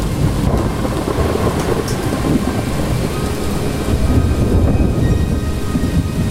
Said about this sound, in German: Kann sein, dass das Ihr Gewitter demnächst sein wird. Aber in dem Fall gilt: Vergessen Sie nicht, Ihre Antennen zu erden.